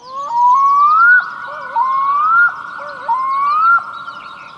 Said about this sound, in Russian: Светлой летней ночью знакомый призыв чернозубой гагары, во все горло кричащий высоким голосом, доносится на берегах озер.